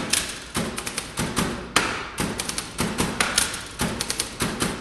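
Keys of a tenor Smith Corona typewriter being struck hard by a Boston Typewriter Orchestra player in quick, uneven bursts, each sharp clack followed by short pauses, a loud percussive clatter with no voices.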